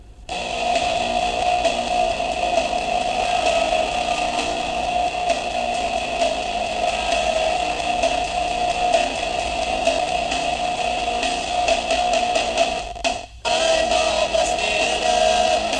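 A song plays through the buzzing motor of an electric toothbrush, its music reduced to a thin, harsh, distorted drone with a steady mid-pitched whine, broken by one brief dropout near the end.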